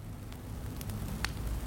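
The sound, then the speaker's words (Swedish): Muffled, low crackling of a fire burning in the cellar beneath an old wooden floor, a few sharp pops scattered over a steady dull rumble, with no voices. “Då hörde jag ett knastrande ljud under mig.”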